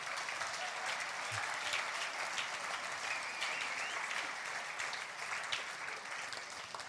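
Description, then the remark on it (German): Steady applause from an audience fills the whole stretch, a dense continuous patter of many hands clapping at an even level without letting up. “Ein Applaus”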